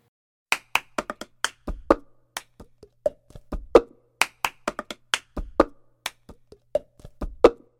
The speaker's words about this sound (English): the woman who's singing it, she's doing a little hand thing with the cup, a paper cup, clicking it around, and it makes that funny rhythm in the sound.